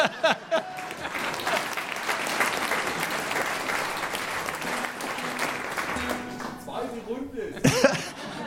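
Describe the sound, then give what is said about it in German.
An audience claps steadily for several seconds, a dense, even patter of many hands, with a cough and some murmuring near the end as the applause fades out, at an evening stage performance of poems and songs. “Können wir mal klatschen.”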